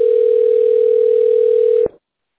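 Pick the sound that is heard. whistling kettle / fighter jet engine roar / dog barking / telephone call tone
telephone call tone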